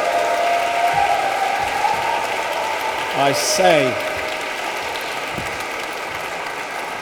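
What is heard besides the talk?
spontaneous audience applause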